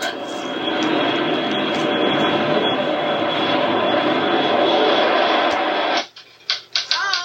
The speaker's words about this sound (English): They did, like, a... Was it a plane? Like, airplane sound? It sounds like an airplane.